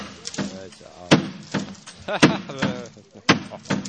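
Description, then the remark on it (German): Three heavy, sharp blows strike very sturdy window glass about a second apart as emergency responders smash in a window to reach an elderly woman inside, each a hard thud with a brief crack, while people keep talking underneath. “Das heißt, ihr müsst wahrscheinlich das Fenster einschlagen.”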